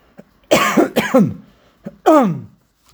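A fairly loud cough: two quick harsh bursts, then a brief pause and a third rougher cough, with no talking.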